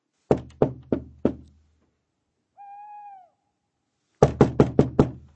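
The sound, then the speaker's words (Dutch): Firm knocks on a wooden door, four in a row, then a quiet pause broken by a single owl hoot before a faster burst of five knocks. No one speaks. “Ik zie geen bel. Ik zal maar even kloppen.”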